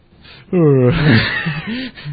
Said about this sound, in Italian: Vabbè, dai, voi non avete visto lo sbadiglio, va bene.